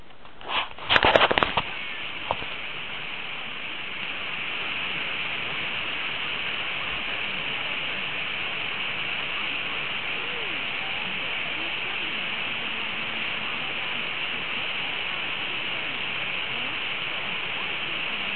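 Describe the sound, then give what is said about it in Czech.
Steady, muffled hiss of medium-wave radio static fills the whole clip, opening with a few sharp crackling bursts, while a weak station lies faintly buried beneath the noise. “Ale ten signál tam je.”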